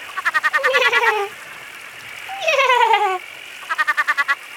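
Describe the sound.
A voice imitates a laughing northern tree frog: a rapid run of bouncy, high pulsed notes, a longer wavering call sliding downward, then another quick pulsing burst, fairly loud, with no talking.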